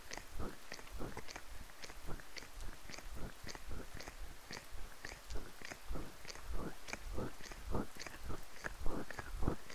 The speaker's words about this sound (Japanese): どうですか？生徒に雨で冷えた耳をコリコリってマッサージされる気分は、驚いたようなその吐息もこの雨の音にかき消されちゃいますね。